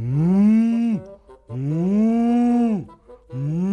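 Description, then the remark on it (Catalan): A voice imitates the moo of a big, strong bull: two long, deep, droning lows followed by the start of a third, loud, with short pauses between them. “Fuig, fuig, que em faries tenir malsons amb aquests mugits tan horrorosos.”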